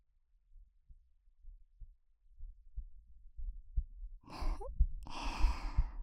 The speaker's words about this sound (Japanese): 私の鼓動聞こえていますか？ドクンドクンって脈打っている私の心臓。